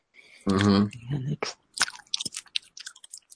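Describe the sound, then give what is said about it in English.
Crisp crunching as someone bites and chews a crunchy cheese stick, with a brief voiced sound at the start followed by several sharp crackling bites and wet chewing. “Then I'll take one out at a time and eat out that crunchy cheese sick.”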